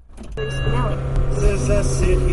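Steady low rumble of road noise from inside a moving car on a rainy day, with the radio off, a constant drone with a faint tonal hum that rises slightly after the first moment and holds evenly throughout.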